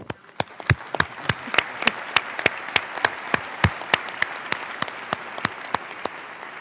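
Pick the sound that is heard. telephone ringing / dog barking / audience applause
audience applause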